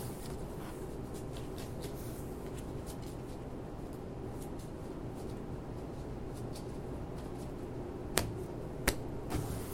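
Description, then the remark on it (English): A steady papery rustle of cards being shuffled runs throughout, broken near the end by a couple of sharper snaps. No one speaks. “Okay. Shuffle that one.”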